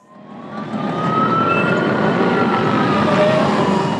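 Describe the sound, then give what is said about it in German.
Dense, loud, chaotic street traffic in the city of Lahore, Pakistan, a steady roar of engines with car horns sounding over it, one drawn-out tone and a few shorter honks. No one speaks. “Chaotisch ist der Verkehr in der pakistanischen Millionenstadt Lahore.”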